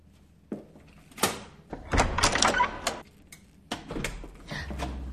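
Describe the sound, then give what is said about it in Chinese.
Clicks and rattles of a door lock being worked with a key, followed by the clunk and creak of the door swinging open, a few scattered knocks trailing off afterward, with no voices. “啊！终于开门了！”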